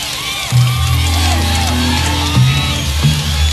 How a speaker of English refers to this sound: You notice it's spreading back. The crowd is getting a little more enthusiastic each time. Go.